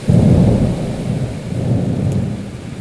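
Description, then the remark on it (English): Deep rolling thunder rumbles loudly and steadily over a constant hiss of heavy rain, a full thunderstorm with no voices. “The lightning illuminated the sky, turning it purple. The rain knocked on the roof, and the wind dragged the leaves into the air.”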